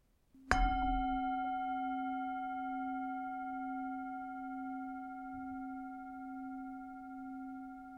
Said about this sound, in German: Ich beginne wie immer mit dem Gong der Klangschale und hole dich wieder zurück mit dem Gong.